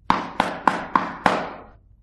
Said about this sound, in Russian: Не успела она еще до мельницы дойти, а волк уже прискакал к бабушкиному домику и постучался в дверь.